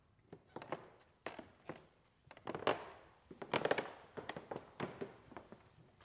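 Footsteps thud unevenly on the old wooden stairs of the very old VHS (adult education centre) building in Starnberg, each step bringing a creak or groan from the boards, some creaks longer and squeakier than others, with no voices.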